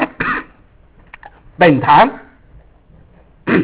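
A man coughs and clears his throat in several rough bursts separated by short pauses, with a louder, harsher throat-clearing in the middle.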